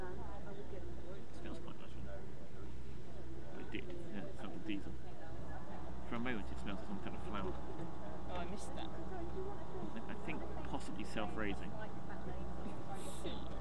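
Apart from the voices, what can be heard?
boat engine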